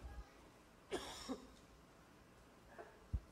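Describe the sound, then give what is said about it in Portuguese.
A pair of short, rough coughs from a slightly hoarse speaker, one right after the other, followed by quiet and a faint soft thump near the end. No one speaks. “Perdão, eu vou tossir algumas vezes que eu estou um pouquinho rouco.”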